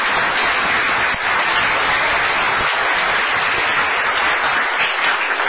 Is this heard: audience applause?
yes